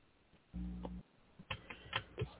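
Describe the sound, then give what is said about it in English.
Someone types on a Mac computer keyboard, tapping out a handful of quick, uneven keystrokes after a brief low humming thud. The clicks are fairly soft, with no talking. “As I'm in the middle of typing something up, I have to obviously text you”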